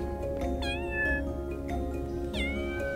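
A white cat with thick, soft fur, just come out of a box, meows several times in quick succession, drawn-out rising and falling cries that sound clear over a steady low background hum, with no talking.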